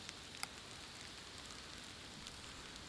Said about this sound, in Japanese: だから、もう少しだけ雨の森楽しんだら行こう。